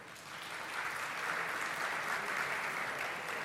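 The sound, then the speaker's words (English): A large audience claps and cheers at a proposal to modify the baseball designated hitter rule so both leagues match, in a dense, steady wash of applause that swells a little and holds for several seconds, with no one speaking over it. “Well, you're cheering, but you know it's not going to happen.”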